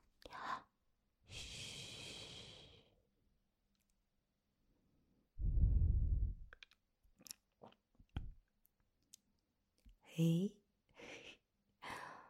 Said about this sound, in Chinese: 爸爸还真打呼噜了